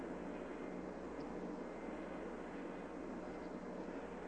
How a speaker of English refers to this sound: The decon equipment is being lowered from the recovery helicopter.